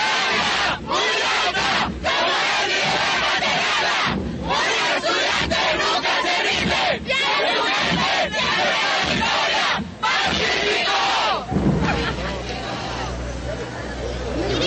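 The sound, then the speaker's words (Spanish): A large group of students shouts in unison at a military parade on Carrera 68 in Colombia, a loud, sustained chant with brief pauses between bursts, rising together over steady crowd noise and a low engine rumble. “Seguimos contando entonces las historias de todos los uniformados aquí en este desfile militar y nos despedimos con este grito de los estudiantes.”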